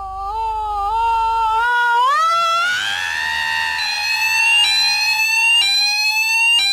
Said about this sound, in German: Hier haben zum Beispiel Rauchmelder ihre stärksten Energieanteile im Spektrum.